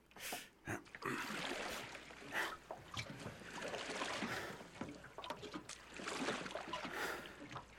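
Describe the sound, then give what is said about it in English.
Oars pulling through ocean water in an uneven rhythm, with splashes, drips and the creak of a dinghy being rowed ashore, fairly loud and without talk. “Come on, take an oar.”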